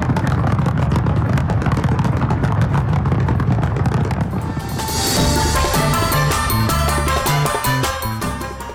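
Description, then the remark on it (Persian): Dense, rapid booms and crackles of fireworks open the Winter Olympic Games opening ceremony hosted by South Korea, loud and continuous through the first half, then give way to sustained tonal music with a steady melodic line. “این مراسم با آتش‌بازی آغاز شد.”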